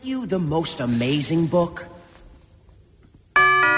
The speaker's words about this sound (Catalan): Només timbre i veu.